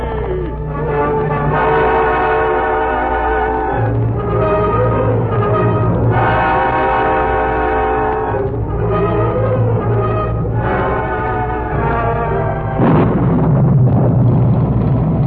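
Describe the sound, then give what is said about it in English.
Brassy orchestral music from The Lone Ranger plays in loud swelling phrases, then a heavy crash of thunder breaks in near the end, followed by a dense, rushing roar of torrential wind-driven rain over a trail. “Thunder crashed, and a torrential wind-driven rain blotted out the trail.”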